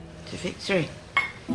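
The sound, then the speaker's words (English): Glassware clinks and knocks in short bursts as whiskey is poured into two glasses, capped by one bright, ringing clink of the two whiskey glasses touching in a toast to victory, with a brief voice sound in between. “grabs a bottle of whiskey and pours out two glasses.”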